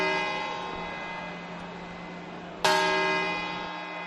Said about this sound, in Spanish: la plaza está llena de gente con ganas de pasarlo bien y de dar la bienvenida al 2018. Y atentos, que son las 12 y ya empiezan las campanadas.